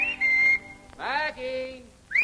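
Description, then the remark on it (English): A man standing in the garden of an old colonial mansion whistles a short series of clear, rising and sliding notes up toward a second-floor window. The whistling is fairly loud, with brief pauses between phrases and no talking. “Ain't no use whistling around here, Mr.”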